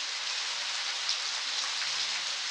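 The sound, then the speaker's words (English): A California rainstorm, recorded by an artist for an album: steady, dense rain hisses continuously, with occasional brighter drips and patters standing out against the constant wash of falling water. No voices are present. “… recorded This California Rainstorm for a CD he calls ….”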